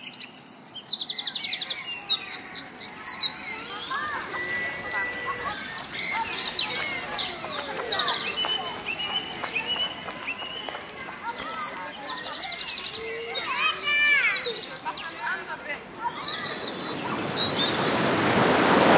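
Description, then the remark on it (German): Park ambience in Munich's English Garden, a mix of park, birds and beer garden, with lively birdsong, many layered chirps and tweets over a steady wash of background noise and faint voices, building slightly toward the end. “Also diese typische Mischung aus Park, Vögeln, Biergarten, entspanntem Zusammensein.”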